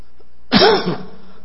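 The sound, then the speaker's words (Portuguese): A single short cough with a rough, throaty edge, lasting about half a second, followed by quiet. No one speaks. “Vou tossir.”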